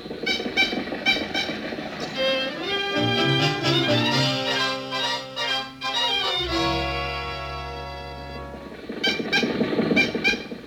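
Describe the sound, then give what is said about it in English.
An old car engine cranks and struggles to start, wheezing and sputtering with loud, honking, whistle-like tones that rise, drop to a low rumble, then give a few final coughs. “Why do they always gather when we try to start the car?”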